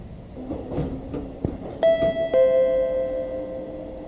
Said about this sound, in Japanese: 瀬戸市役所前、瀬戸市役所前です。左側のドアが開きます。ご注意ください。ホームと電車の間が空いています。足元にご注意ください。